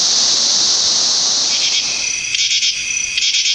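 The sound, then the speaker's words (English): A loud cicada drones in a steady high-pitched buzz that starts to throb in rapid pulses toward the end, with no voices present. “A cicada makes a loud buzzing sound on sunny summer days.”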